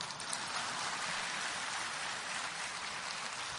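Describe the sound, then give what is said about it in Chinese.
A crowd claps in a dense, steady roar of applause, the many hand claps blending into an even hiss that holds at the same loudness throughout, with no voices. “我看你们都有这个毛病，鼓掌。”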